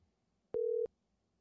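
A telephone ringback tone sounds once over the phone line, fed through a soundboard via a phone cable: a single short, steady electronic hum, clear and moderately loud, set against faint background noise with no talking.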